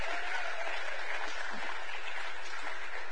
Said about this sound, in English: All right, give the kids a big old round of applause. Amen.